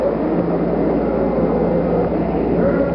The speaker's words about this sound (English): 10, 9, ignition sequence start, 6, 5, 4, 3, 2, 1, 0, all engine running. Liftoff, we have a liftoff, 32 minutes past the hour. Liftoff on Apollo 11.